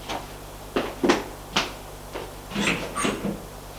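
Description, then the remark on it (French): A group opens the door of a fifth-floor hotel suite off a corridor: a handful of sharp clicks and rattling knocks from the latch and handle, spread unevenly over a few seconds above a low steady hum, with no voices. “Sortent de l'ascenseur, longent un couloir où il y a plein de portes, et le groupe va ouvrir une porte.”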